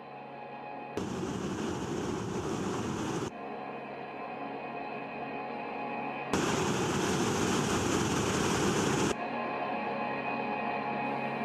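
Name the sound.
ocean waves breaking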